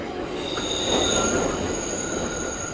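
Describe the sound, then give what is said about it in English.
A subway train rumbles steadily along the tracks, with sustained high-pitched wheel squeals ringing over the dense rolling noise throughout. “Why do subway riders walk through the trains?”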